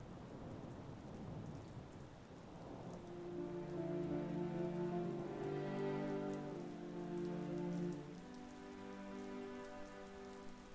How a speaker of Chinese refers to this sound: 离开珍奇钟表行的时候，天上下起了大雨。